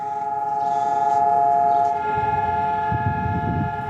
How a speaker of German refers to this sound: Und wie an jedem Yom HaShoah heulten heute in ganz Israel um 10 Uhr Ortszeit die Sirenen. Und das ganze Land hielt für 2 Minuten inne.